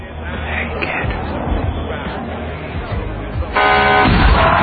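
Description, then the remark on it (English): Film sound effect of a bus hitting a kid, in a scene shot in downtown Los Angeles: busy street noise with a murmuring crowd, then a bus horn suddenly blares loud, followed by a heavy low thud as the vehicle strikes. “scene where a kid gets hit by a bus”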